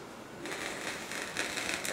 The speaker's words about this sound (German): ein einzelnes Photon trifft auf den Detektor, dieses Photon wird extrem verstärkt und gibt einen Puls aus